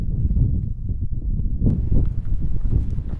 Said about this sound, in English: It's quite windy, we can talk.